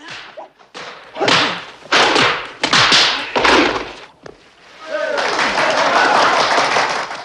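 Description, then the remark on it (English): A quick flurry of loud thuds and whooshing strikes as two fighters dressed in yellow trade punches and kicks in an arena, one blocking and tripping the other, followed by a steady wash of crowd noise. “aim punches and kicks at each other. Williams blocks and trips Parsons”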